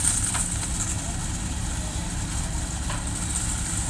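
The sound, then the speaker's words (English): A heavy truck engine idles and rumbles steadily at low speed as the truck drives very slowly backwards down a row of a corn field, pushing the harvest trailer. A continuous deep drone holds level for the whole stretch with a faint high hiss above it. “And this whole operation is getting pushed by a truck driving very slowly backwards down the row.”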